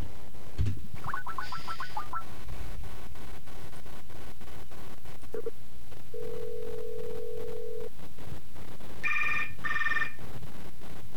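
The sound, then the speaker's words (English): A telephone line rings on an outgoing call from a cell phone to a pump station, with warbling electronic chirps, a steady two-second ringback tone, then two short high-pitched beeps, all clear with no voices. “And this is one we've definitely called previously, but I like it, so we're gonna call it again.”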